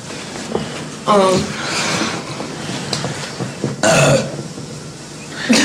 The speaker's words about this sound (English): Dude, we're gonna do clips of you burping. Because I've got like 20 of them.